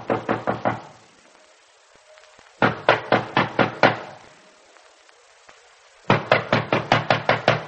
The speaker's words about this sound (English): At first, he doesn't hear the knock at the door.